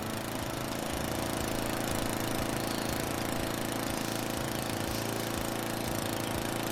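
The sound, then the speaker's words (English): A lawn mower engine runs steadily throughout as grass is being mowed, a continuous buzzing drone with a low rattling hum underneath and no pauses or changes in speed. No one speaks. “Green is the grass that Daddy has to cut. He mows it every week.”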